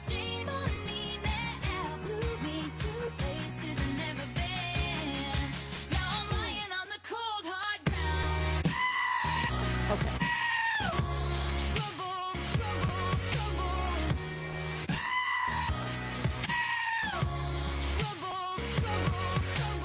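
Loud, strained goat bleats and screams burst out repeatedly over a driving pop song with a heavy beat, each cry rising and falling sharply before the music carries on.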